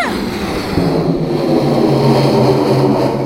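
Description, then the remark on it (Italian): A television crew's helicopter passes over a village, its steady engine roar and droning rotor hum loud and continuous, with no voices. “Nel frattempo, nei cieli fotosferici al di sopra del villaggio, passava un elicottero di una troupe televisiva.”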